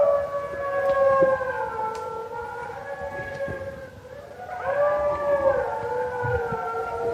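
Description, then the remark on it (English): A chorus of wolves howling together, several long overlapping wails that hold steady and slowly bend in pitch, sustained and fairly loud throughout with no one talking. “Because in the natural world, there may be no sound that is more iconic or haunting than the sound of wolves howling.”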